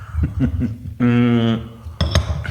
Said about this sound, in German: Okay, dann lass uns mal ganz kurz hier anstoßen. Runde 2, jetzt haben wir hier Kaffee ganz stilvoll. Cheers. Cheers.